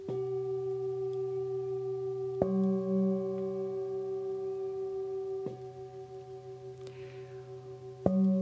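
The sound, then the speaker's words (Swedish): Steady electronic tones a musical fifth apart hum together in a sustained interval, shifting pitch in blocks every few seconds with sharp clicks at each change, no voices present. “Och för dig som lyssnar, om du nu är väldigt musikalisk, så kommer du att höra att det här är en kvint.”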